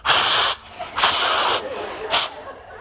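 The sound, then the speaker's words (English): Someone blows their nose in three forceful, breathy honks, the first two long and the last a quick short puff, with no talking. “I'll blow my nose.”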